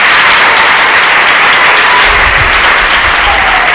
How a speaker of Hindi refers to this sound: अगर तैयार है तो फिर तालियां बजा कर बताएं।